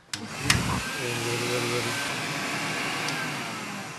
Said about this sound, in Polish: To jest odkurzacz marki Zelmer, wyprodukowany w Rzeszowie. Strzelam, że jeszcze był polski. Właśnie. Tak, tak. W Rzeszowie wyprodukowany w 1939 roku. Łatwo to odczytać, ponieważ pod spodem ma blaszkę znamionową